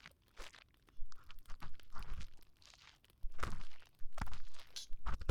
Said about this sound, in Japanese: 気持ちいいんですよね、私の耳かきが。